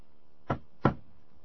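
Two quick knuckle raps on a wooden surface, fairly sharp, spaced about a third of a second apart, with quiet before and after.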